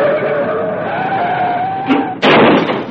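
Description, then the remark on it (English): Car tires screech in a long, steady, high-pitched squeal lasting about two seconds as a car shoots out of a parking lot into the street and its driver loses control, then break off into a loud, harsh burst of noise like a jolt or impact. No voices are heard. “I lost control of the car.”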